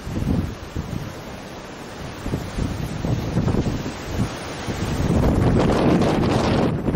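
Strong wind buffets the microphone with a continuous, rumbling roar and gusty low thumps, growing louder and harsher in the last couple of seconds. No one speaks.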